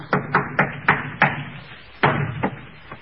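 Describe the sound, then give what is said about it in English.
Shutters bang in an uneven series of about eight hollow, knocking thuds, five in quick succession, then a short pause before a few more irregular knocks, with no wind outside. No voices. “Hear those shutters banging?”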